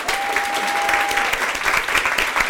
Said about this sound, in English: Would you please give an enormous round of applause for our team?